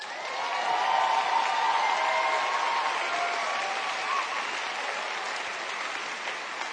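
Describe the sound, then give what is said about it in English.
An audience claps steadily for several seconds, a dense wash of many hands with a few cheers, swelling early and then holding at a fairly even level. “See, now that wouldn't get applause everywhere, I'm betting, is what I think, you know, in a lot of venues.”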